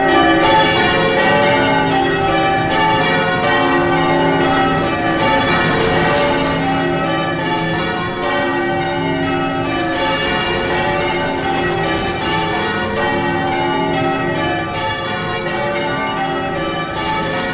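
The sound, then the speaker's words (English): The bells of St Paul's Cathedral in Melbourne, recorded in 1961, ring the change-ringing pattern Stedman Doubles, their rapid, overlapping strikes forming a dense, steady clangour that stays loud throughout, with no voices. “Now this cacophony is the sound of the bells from St Paul's Cathedral in Melbourne, recorded back in 1961.”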